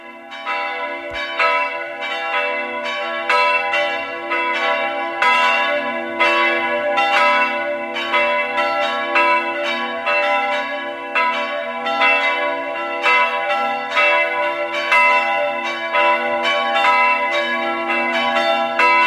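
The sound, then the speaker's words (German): The bells of the Catholic parish church of Stadtschleining in Burgenland peal together at 12 noon in a dense, continuous overlapping ring, their rich harmonic tones sustained and fairly loud throughout with a steady, rolling rhythm of strikes, no voices present. “Sie hören die Glocken der katholischen Pfarrkirche von Stadtschleining im Burgenland.”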